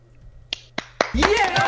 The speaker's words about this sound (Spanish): A ver, aplaudan otra vez las personas.